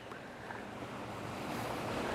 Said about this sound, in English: I am above a creek now. I hope that you hear the water flowing. It rained earlier today.